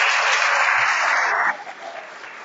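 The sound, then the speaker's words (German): A crowd applauds the new music group with dense, steady clapping that holds loud for about a second and a half, then drops abruptly to a softer patter before fading out. No voices are heard. “Also nochmal einen ganz herzlichen Applaus für die neue Gruppe.”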